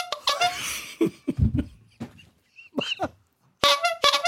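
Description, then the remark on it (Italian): A squeaky toy horn honks a couple of times, short nasal blasts standing out loudly, with laughter and giggling scattered around them. “Se tu quando cominci a fare petting, a toccare la tua fidanzata, tieni nell'altra mano la trombetta e mentre per esempio le tocchi glutei, con la trombetta fai...”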